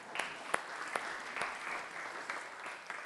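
An audience claps steadily for a few seconds, a dense patter of hands with a few sharper, louder claps standing out, no voices on top.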